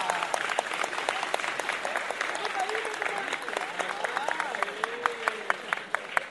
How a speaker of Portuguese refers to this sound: juntamente com o Centro Cultural da Espanha, que a gente pede uma salva de palmas. Oba!